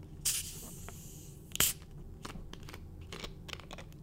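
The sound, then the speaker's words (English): Two short, bright hissing bursts of gas escaping as a plastic soda bottle cap is twisted open, the first longer and the second sharper, followed by faint fizzing and small clicks. “Let's do the plastic bottle.”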